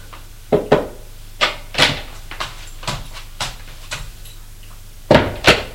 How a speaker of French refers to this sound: Vite, sans se déshabiller, il va ouvrir la porte de la chambre de sa femme.